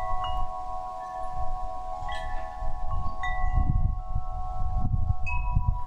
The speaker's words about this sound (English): And you will hear different sounds depending on the weather conditions. A wind chime will play according to the wind. Its volume and speed are adjusted to its intensity.